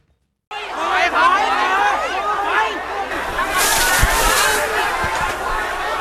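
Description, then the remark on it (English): A dense crowd of pro-democracy protesters in Thailand shouts and clamors at security barricades; about halfway through, a loud, steady rushing hiss of high-pressure spray from a riot police water cannon joins in, with a few sharp thuds beneath the commotion. “Riot police in Thailand use a water cannon on pro-democracy protesters to stop them from forcing their way through security barricades.”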